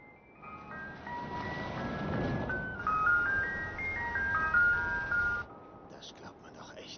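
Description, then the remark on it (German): An ice cream truck jingle plays a simple, bright melody of stepped electronic notes over steady rumbling background noise, then cuts off abruptly, leaving only the low noise. “Klingt fast so wie ein... ein Eiswagen?”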